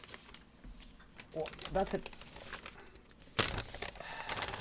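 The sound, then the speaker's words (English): A prop paper being crumpled, a run of crackly rustling bursts with a sharper, louder crunch near the end, while a voice murmurs briefly in the background. “I'll retire my prop paper and I'll get a new empty prop paper.”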